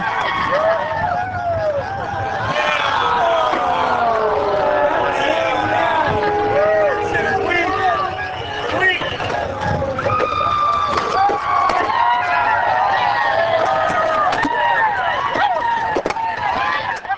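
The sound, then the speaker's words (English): A loud, dense crowd at the Big Wheel Rally at the West End Tavern cheers, whoops and jeers as riders on big wheel trikes crunch through the small doorway onto the sidewalk. Many overlapping voices shout at varying pitches in a steady roar, with occasional sharper yells rising above the babble. “With each crunch of another big wheel through the small doorway, the crowd let up a cheer.”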